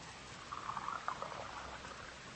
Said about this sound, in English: You could steady these glass beakers for me while I pour the fluid off.